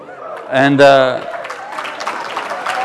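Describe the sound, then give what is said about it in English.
An audience breaks into steady, crackling applause that carries on to the end, opening with a loud voiced whoop or laugh rising over the crowd. “And I'm not exactly sure what I'm getting applause for here, but I can tell you my wife sure wasn't applauding very much.”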